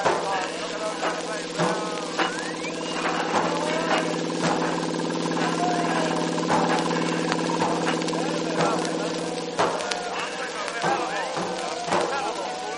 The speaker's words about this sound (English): Hello, there go our planes up after them. Yes, but they're not high enough. No, but they soon will be. See how they're climbing.